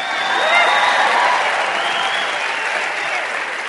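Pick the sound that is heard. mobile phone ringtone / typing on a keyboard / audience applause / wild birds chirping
audience applause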